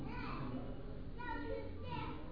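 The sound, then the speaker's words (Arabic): A steady murmur of overlapping voices, women and children chattering together, with no single speaker standing out, continuous throughout. “صنع النساء بارك الله فيهن الصوت، الأطفال بالعرب.”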